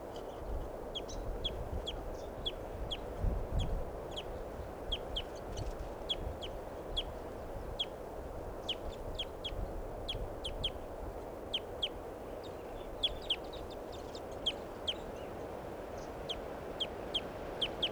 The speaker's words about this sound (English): There's a fairly large flock of crossbills in the tree here. That's the tree that's in the middle of the corral at Barford Park. This is where I'm camped now. And this is a sample of the flock's pre-flight calls. They're perched kind of low.